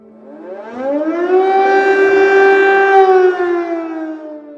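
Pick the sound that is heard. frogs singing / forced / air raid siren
air raid siren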